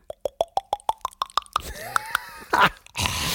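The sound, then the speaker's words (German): A mouth imitates beer being poured: about ten quick, evenly spaced plopping clicks rising steadily in pitch like a filling glass, followed by a few breathy, fizzing hisses. “Komm, mach, du kannst das Geräusch nochmal. Gieß, schenk dir doch bitte nochmal was ein.”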